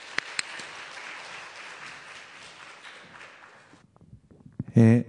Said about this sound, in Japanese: じゃあ拍手を持ってお迎えいたしましょう。先生お願いいたします。